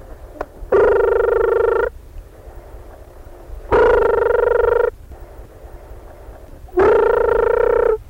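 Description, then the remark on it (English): A telephone ringing tone sounds three times, each steady, buzzy, mid-pitched burst lasting about a second, with roughly two-second gaps of quiet hiss between them, as a call is dialed to a listener for a jackpot question giveaway. No one speaks. “And it's ringing.”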